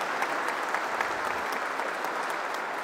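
Steady, sustained applause from a crowd for the Secretary of Labor and his team at a government presentation of social programs. A dense wash of many hands claps at an even loudness throughout, with no voices standing out.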